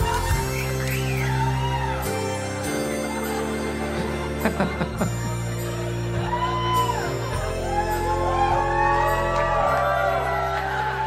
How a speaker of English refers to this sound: All right. That was less applause than Bill Burr. Is it because I'm a woman?